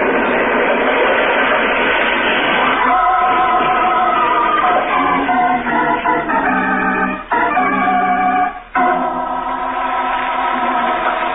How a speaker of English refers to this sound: far from the scene of the train wreck